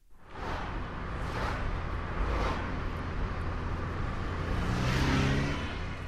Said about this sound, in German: An Tagen wie heute sind besonders viele Autos von Feldkirch Richtung Arlberg und ins Montafon, ins Kloster oder das Brandnertal unterwegs. Viele Deutsche, vor allem aber auch viele Schweizer Autonummern sind dabei.